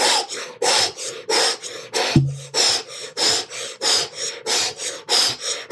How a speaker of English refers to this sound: And you're going to do this through a round mouth breath of fire. So you're going to go... really powerful, powerful breath through your round mouth. Oh, literally like an O face.